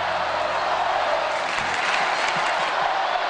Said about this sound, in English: Kansas City officials say a half million people are packed into a downtown square to cheer the World Series champion Kansas City Royals.